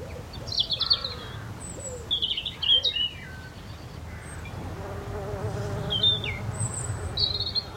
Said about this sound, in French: C'est une mouche, c'est une abeille. C'est une abeille, vous avez bien raison.